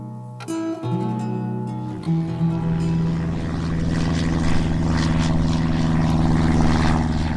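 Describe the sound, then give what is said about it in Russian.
A propeller airplane circling over a village, its engine droning steadily, starting up with a sputter and settling into a loud, continuous low hum with a buzzing, rising tone. “На следующий день Нева услышал знакомый гул деревянной пчелы и побежал к просеке, чтобы посмотреть, как она кружит над селом.”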